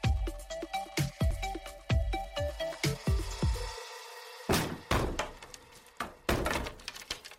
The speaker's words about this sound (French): Ils grimpent avec la grande échelle jusqu'au Velux au-dessus de sa chambre et ils ordonnent qu'on enfonce la porte.